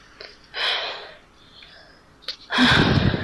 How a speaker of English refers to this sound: That was a woman breathing heavily after her exercise.